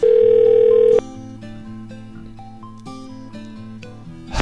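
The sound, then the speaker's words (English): A loud, steady telephone ringing tone sounds once for about a second as someone calls a person back, then cuts to quieter, music-like tones with no one speaking. “Should I call her back and be like, are you okay, honey?”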